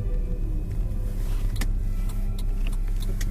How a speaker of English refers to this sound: Oh, I did want to mention, yeah, I'm in the car again, so that's why there's all this noise and stuff all over the place.